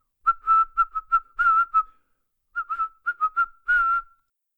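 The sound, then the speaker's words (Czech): A small silver whistle sounds a Morse code sequence of short and long shrill blasts in two separate groups with a pause between, whistled across a river, clear, with no talking. “Koupil jsem si malou stříbrnou píšťalku. Vzal jsem si ji a pískal Morzeovkou přes řeku.”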